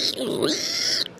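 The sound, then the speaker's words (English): A person imitates a pig with one drawn-out, snorting grunt lasting about a second, demonstrating how to make a creature sound. It is fairly loud, with no other sounds around it. “You can think of it sort of as like making a pig sound, like a...”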